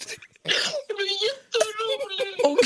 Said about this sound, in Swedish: Nej. Hon gråter. Nej, men älskling.